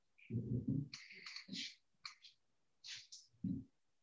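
A crow calls with a run of harsh, raspy caws in irregular bursts, a few short and clipped, heard alone without any talking.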